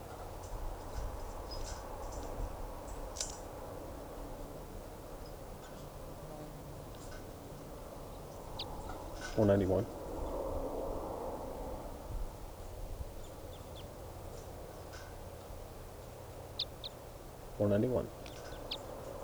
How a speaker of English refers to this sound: Stop. Recording bird.